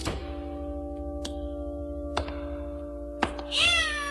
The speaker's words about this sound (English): I stepped on my cat's tail. That's strange. I didn't see any cat. There isn't any. Just a tail.